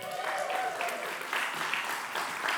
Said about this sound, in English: That's the most cheering you're going to get today, sir.